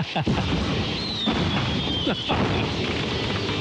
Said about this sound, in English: You like my fireworks?